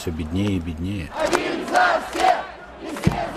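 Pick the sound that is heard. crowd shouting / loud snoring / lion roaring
crowd shouting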